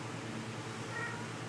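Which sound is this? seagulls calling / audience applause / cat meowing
cat meowing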